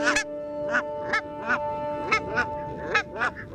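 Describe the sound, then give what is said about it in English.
Barnacle geese give a run of short, yapping honks, about eight or nine calls in quick, uneven succession, clear over a faint steady background hum. “So even today, barnacle geese tell a tale as old as medieval times.”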